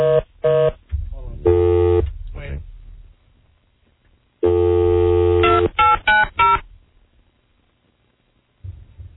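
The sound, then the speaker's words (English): Telephone keypad tones beep in irregular clusters: a few short presses, a longer held tone, a pause, then another long tone followed by several quick beeps, loud. “If this goddamn phone”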